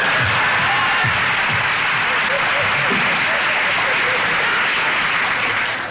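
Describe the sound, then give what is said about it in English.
A sustained burst of audience applause, a dense, steady wash of clapping that holds at an even, fairly loud level for several seconds, with faint voices murmuring underneath. “Thank you. Applause.”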